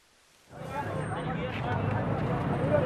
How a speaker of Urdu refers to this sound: بلوچستان کے ضلع خضدار کے سول اسپتال میں اس طرح کی بھیڑ بھاڑ روز کا معمول ہے. یہ لوگ ایک بس حادثے میں علاق اور زخمی ہونے والے اپنے رشتہ داروں کو تلاش کر رہے ہیں.